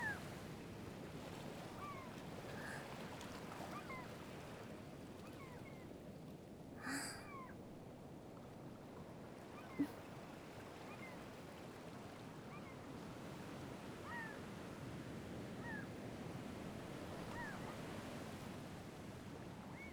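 Steady ocean surf washing onto the shore, a continuous broad rush with gentle swells, joined now and then by faint gull cries and one sharp brief knock.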